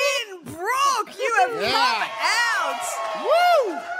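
A crowd at the Lynbrook Hotel in Lynbrook cheers and whoops loudly, many overlapping voices rising and falling in high, swooping shouts that carry on without a break for about four seconds.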